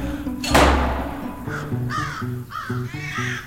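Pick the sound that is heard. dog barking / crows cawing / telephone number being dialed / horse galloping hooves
crows cawing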